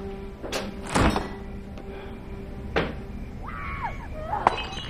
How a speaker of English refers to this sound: He opens the refrigerator.